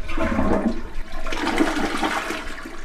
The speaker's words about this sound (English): their brand new toilet is hooked up, and the water is flowing. The honor of first flush goes to